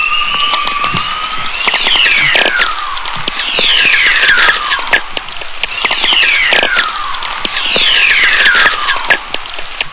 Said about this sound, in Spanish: Y el fragmento que hemos escuchado antes pertenecía a una aurora boreal, grabado en Alberta, Canadá, en septiembre de 1993.